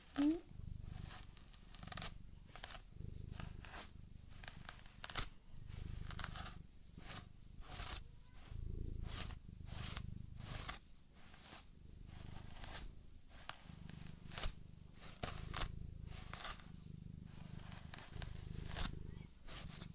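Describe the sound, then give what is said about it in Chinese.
A comb is drawn through a long-haired cat's fur again and again to detangle it and remove loose fur, each scratchy stroke in a brisk, steady rhythm over a soft low rumble. “咱们梳好毛，就奖励你吃猫条，好不好呀？”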